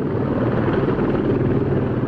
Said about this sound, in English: That is a very familiar sound in Sitka. A helicopter taking off from Air Station Sitka.